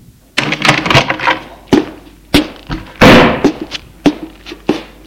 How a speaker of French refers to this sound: Dans la salle à manger, la porte de la salle à manger s'ouvre.